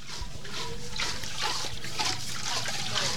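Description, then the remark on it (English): Water splashes and trickles in uneven surges as women take turns pumping the rusty metal handle of a communal hand-pump well in a jungle village in central Sri Lanka, with a faint clank now and then; outdoor ambience hums underneath, and a voice is barely present. “Women chat as they take turns pumping the rusty metal handle to bring water to the surface”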